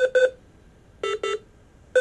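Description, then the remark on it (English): Electronic hospital monitor alarm beeps in repeating pairs of short, bright tones, one pair pitched a little lower than the other, with quiet gaps between them and no talking. “To most people, it sounds like medical muzak, but to doctors and nurses, those constant beeps are coded messages.”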